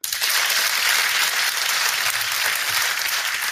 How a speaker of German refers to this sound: Also ich würde sagen, ihr kriegt auf jeden Fall erstmal beide einen Applaus.